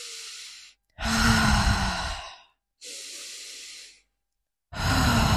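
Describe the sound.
Slow, deliberate heavy breathing made on purpose as a demonstration: four loud breaths, alternating long airy exhales and inhales with brief silent pauses between, some carrying a low voiced, sigh-like edge.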